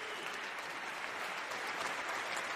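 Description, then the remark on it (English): An audience applauds in a steady, dense wash of clapping that holds at an even, fairly loud level throughout, with no single voice standing out above the crowd noise, cheering on people coming down to the front. “And as you come, this body is going to cheer you on.”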